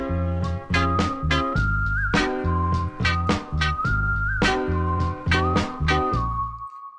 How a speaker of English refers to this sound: And then in that moment, …, they send me another version with this whistle on it.